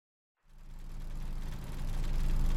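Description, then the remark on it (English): The engine of an amusement park ride car rumbles to life after a brief silence and settles into a steady, low idle, growing slightly louder and fuller, with no voices over it. “Okay, I guess we get into this really kind of scary car. Buckle ourselves in.”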